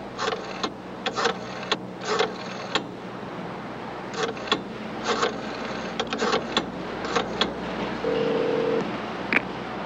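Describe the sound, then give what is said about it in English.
A series of short phone keypad beeps in quick, uneven clusters, followed by a brief steady tone near the end, all over a low background hum with no talking. “Okay, Superman might not miss those corner phone booths, but can you imagine Robert Redford and all the president's men trying to call Deep Throat from a cellular phone?”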